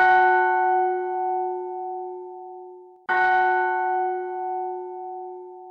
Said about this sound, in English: Inside of Constantinople, the church bells were ringing.